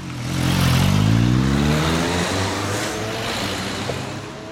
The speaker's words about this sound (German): Klar sind es die Autos, die die Albisrieder Straße in Zürich beherrschen.